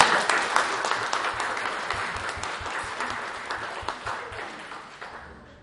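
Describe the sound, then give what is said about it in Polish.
Steady audience applause, a dense wash of many hands clapping at moderate loudness that gradually tapers off toward the end, with no voices over it. “Brawa jeszcze raz.”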